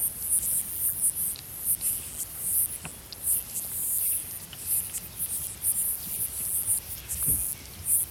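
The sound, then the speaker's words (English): A tiny insect, only millimeters long, stridulates by rubbing body parts together in a shrill, very high-pitched rasping buzz that pulses rapidly and steadily for the whole stretch, prominent over a faint low background rumble. “They use stridulation. They rub body parts together, as, you know, grasshoppers do.”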